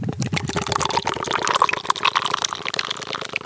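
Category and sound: food or drink, beer pouring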